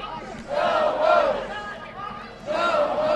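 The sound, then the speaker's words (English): A large protesting crowd of thousands of union members in Springfield, Illinois, protesting during Wisconsin Governor Walker's appearance, chants and shouts together in loud, rising waves, with a brief dip in the middle before the collective yelling swells again. “While Illinois business leaders applauded Walker's remarks outside, thousands of union members protested.”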